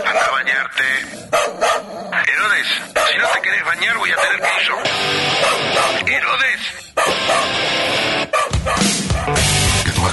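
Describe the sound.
A dog named Herodes barks and yips excitedly in short, loud bursts as it is called to its food and to a bath in a radio advertisement for Buen Perro Veterinaria, with voices and a busy broadcast-style background running underneath.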